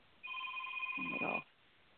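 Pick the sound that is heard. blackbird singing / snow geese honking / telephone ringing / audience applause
telephone ringing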